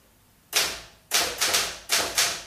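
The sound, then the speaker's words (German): Five sharp, ringing key strikes on a Remington typewriter typing a type sample, in an uneven rhythm, each clack loud with a short metallic decay, alone with no voices. “Mr. Landgrens Schreibmaschine? Ja, eine Remington. Was machen Sie denn da? Bisschen tippen. Nur eine Typenprobe.”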